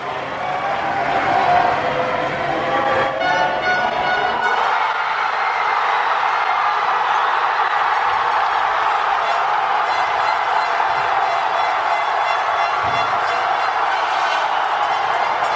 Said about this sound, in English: And you can actually listen really carefully and you'll hear the depth of the sound of like how much the entire city is cheering. This is when France scored maybe goal 3 or goal 4.